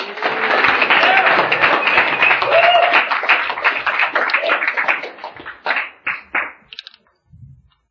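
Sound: round of applause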